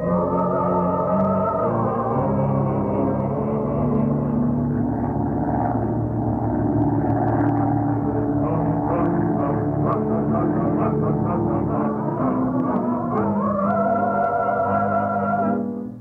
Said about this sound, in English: Power, harnessed in a winged bullet shooting through the sky. Power, clothed in steel, roaring its way across the country.